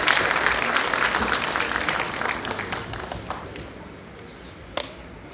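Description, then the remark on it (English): An audience applauds as a speaker is called up at a ceremony, with dense, steady clapping that gradually thins out and fades, ending with one sharp isolated clap near the end. “On applaudit s'il vous plaît.”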